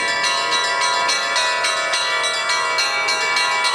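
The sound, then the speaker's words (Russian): Church bells peal continuously, several bells struck in a quick, overlapping rhythm with bright ringing tones that sustain and blend, loud, with no voices; the bell ringing carries over the waters of the Tom River, following boats in a revived cross procession in the Kuzbass Metropolis, Russia, from Luzhba station to Zeledeevo village. “И теперь по воде Тами плывут колокольные звоны, плывут следом за катерами и крестным ходом от истоков Тами у станции Лужба до деревни Зеледеева”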